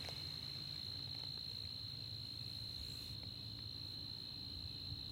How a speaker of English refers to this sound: We've got the crickets in the background.